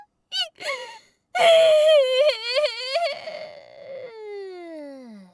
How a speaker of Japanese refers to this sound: ち、泣いてもごまかされないか。